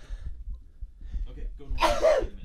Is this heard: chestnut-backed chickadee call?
no